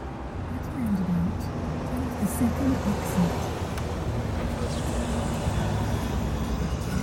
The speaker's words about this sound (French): C'est un après-midi d'automne. J'ai loué une voiture à l'aéroport de Vienne et je roule en direction de la frontière tchèque. Ma destination, Hagenberg. Il pleut à verse.